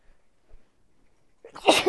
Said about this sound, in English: Big sneezes.